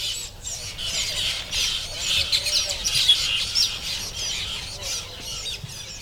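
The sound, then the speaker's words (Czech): A dense chorus of loud, squawking bird calls and chirps overlapping continuously on a fresh morning, from birds in large nests stuck on palm trunks, busy, with no pauses and no voices. “Říkám si, že to bude pěkné zakončení toho svěžího rána, které hlasitě doprovázejí ptáci z velkých hnízd nalepených na palmových kmenech.”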